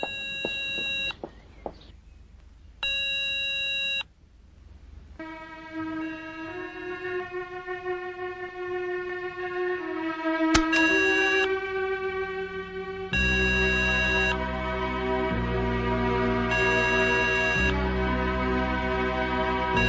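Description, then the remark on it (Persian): A telephone ringing tone repeats in bursts after a number is dialed on a phone from inside a car, electronic and fairly loud, with sustained tonal sounds in between and no one speaking. “لیلا در داخل ماشین با تلفن شماره ای را میگیرد.”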